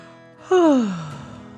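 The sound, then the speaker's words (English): A single drawn-out yawn performed by a voice, starting loud and breathy, then sliding down in pitch and fading over about a second, with no other sounds. “yawned”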